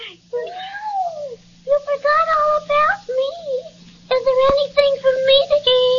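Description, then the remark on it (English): A cat meows over and over, a run of drawn-out, plaintive calls with rising and falling pitch and short pauses between them, over a faint low hum. “Well, I didn't mean to overlook you, little fraidy cat.”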